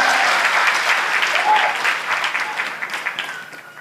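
An audience claps in a steady, dense burst of applause that gradually thins and softens toward the end, with a faint voice briefly audible underneath.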